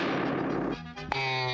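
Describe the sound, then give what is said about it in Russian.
A loud gunshot bursts out as a wolf wearing a diving mask fires a gun at the tow rope of a water-skiing hare. Its rough, noisy blast lingers briefly before giving way to sustained musical tones, with a sharp click near the end. “Натягивает на морду подводную маску, стреляет.”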